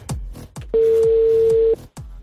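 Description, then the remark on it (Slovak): A phone call being placed: a steady electronic ringback tone holds for about a second over a low repeating pulse, loud, with short quiet gaps around it. “Vytáčam a v tomto momente sme my dvaja ticho.”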